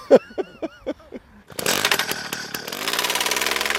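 A small motorized earth drill, used to bore a hole in the ground and take a soil sample from about 2 metres deep for a ground survey, sputters through several quick pulls, then catches and roars steadily, its engine growling loud and rough as it keeps running.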